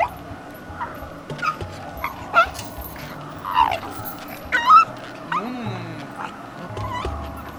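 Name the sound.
dog whimpering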